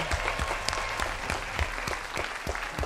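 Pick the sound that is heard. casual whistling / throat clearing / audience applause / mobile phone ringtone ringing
audience applause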